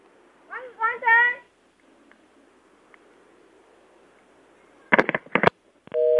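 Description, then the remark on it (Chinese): A short burst of a voice, then quiet line hiss, a few sharp clattering clicks like a handset being handled, and a steady telephone busy tone starting at the very end as the call is hung up. “怎么被三姐挂电话？ 她应该不小心挂掉 啊。”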